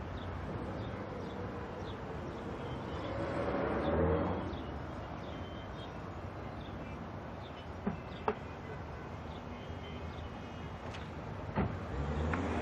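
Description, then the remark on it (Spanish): A taxi's engine idles steadily outside, a low continuous rumble that swells briefly, with a few sharp clicks and knocks near the end. “¿Quién es? El taxi.”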